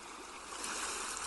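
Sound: ocean surf waves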